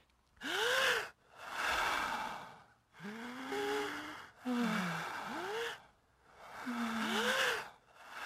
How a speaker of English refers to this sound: you hear this breathing that slowly layers onto itself.